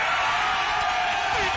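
A loud crowd cheers and whoops in a dense, continuous roar, filling the whole short moment without a break, as the audience votes by cheering for a contestant to win concert tickets.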